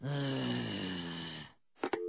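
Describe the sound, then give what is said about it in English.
A heavy, breathy exhale with a low groaning tone from a silent caller on a phone line drags on for over a second, loud, then a brief silence and a short sharp breath or grunt. “I hear breathing, but I don't hear talking.”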